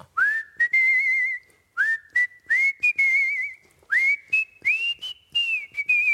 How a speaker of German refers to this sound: Ich könnte eine Stunde weiter pfeifen.